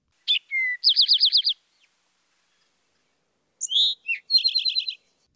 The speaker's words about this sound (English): Other migrating songbirds have returned to Wellfleet Bay and are vocalizing nearby. Listen for the eastern towhee's drink your tea.